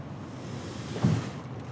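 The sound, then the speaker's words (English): A canoe being carried down to the river's edge: steady outdoor wind and water rush, with one brief, louder knock or splash about midway. “Then it's time to carry the canoe down to the river's edge”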